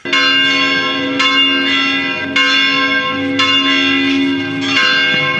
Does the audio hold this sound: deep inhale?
no